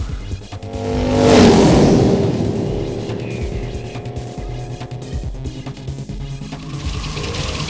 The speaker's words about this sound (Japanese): バイクが変身した。スピードも上がってる。